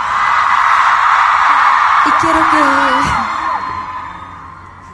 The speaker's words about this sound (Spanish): Y yo hoy quiero pedir no un minuto, el tiempo que queramos para no estar en silencio. Vamos a gritar porque ya hemos estado mucho tiempo en silencio.